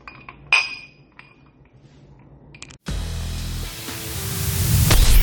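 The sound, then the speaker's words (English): Glasses meet in a single bright, ringing clink in a toast, followed by a few faint taps. A loud, dense wash of noise then takes over and slowly swells. “We're going to keep it real, authentic, and stay thirsty, my friends. Cheers. Cheers.”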